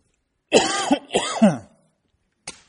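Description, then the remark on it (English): A person coughs twice in quick succession, harsh and throaty, followed after a short pause by a brief, fainter cough. No talking. “It's been one heck of a week. All this weather and coughing and just be happy that, man, it takes me an hour to go to bed at night.”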